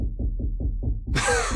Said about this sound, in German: Hier wird gerade geklopft, gehämmert, ich weiß es nicht. Ja, kann man machen, so abends um 21 Uhr.